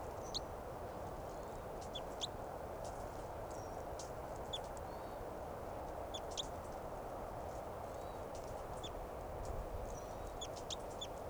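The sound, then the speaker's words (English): A wild bird, now down on the ground, chitters repeatedly, giving quick, high, thin chirps in scattered bursts over a steady background hiss, with no one speaking. “Chitter the wild bird, now the wild bird's down on the ground.”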